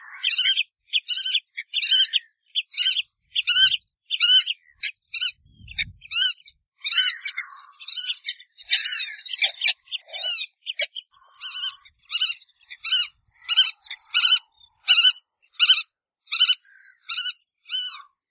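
Harsh, repeated calls from a seabird nesting colony beside a hut in northern Iceland ring out in a steady, rapid series, loud, with a few overlapping cries midway and no voices.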